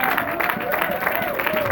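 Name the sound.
audience applauding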